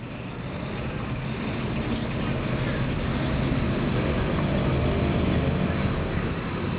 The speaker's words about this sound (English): stares out of his high-rise office at the clogged Bangkok traffic.